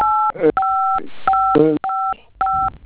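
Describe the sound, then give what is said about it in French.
Five steady telephone keypad beeps, each a clear two-tone tone lasting a fraction of a second, pressed in quick irregular succession on a phone during a customer service call, with brief snatches of a voice between them. “Évitez de toucher le bouton de votre téléphone, s'il vous plaît, monsieur.”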